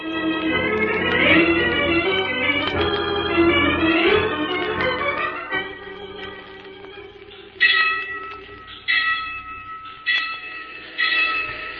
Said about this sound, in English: There's a train coming, Bates. We'd better hide over there behind the bushes until it goes past.